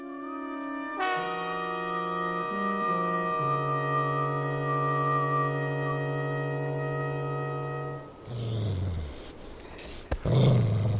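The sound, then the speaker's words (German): A dog named Rico growls in a long, steady, low rumble that shifts pitch a few times, then breaks into rougher, noisier snarls and huffs toward the end. No one speaks. “Sitz, Rico.”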